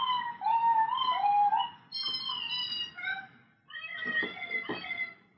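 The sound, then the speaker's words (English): A cat meows three times in a row, long drawn-out, wavering cries that are fairly loud, with brief pauses between them and no other sounds around. “Cat? Cat! Yeah, like we did!”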